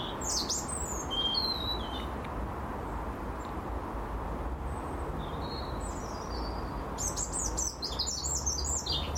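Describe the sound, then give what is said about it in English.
Birds chirp and sing in short bursts on a mild, fresh morning with a slight breeze, above a steady wash of road rumble, with a busier cluster of high tweets near the end. “As is the bird sound, of course, which is always great.”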